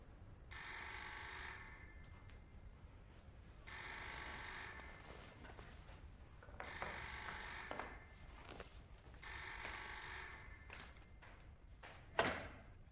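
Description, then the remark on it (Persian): A telephone rings in four long bursts of bright, trilling bell tones separated by short pauses, fairly loud and clear, followed by a sharp knock or thud near the end. “احمق، بار آخرت باشه اینجا زنگ میزنی، فهمیدی؟”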